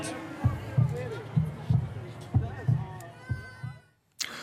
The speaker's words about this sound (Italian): Un cuore che batte a Berna